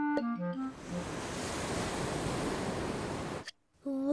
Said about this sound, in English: A seashell. Can you hear the sea in it? What do you mean? If you put a shell to your ear, you can hear the sea.